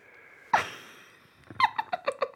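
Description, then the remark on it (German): Soft snoring from a sleeping father, with no talking: a single snorting inhale, then a quick rhythmic run of short, fluttering puffs that trail off quietly. “Das leise Schnarchen, da kenne ich. Das ist von deinem Papi.”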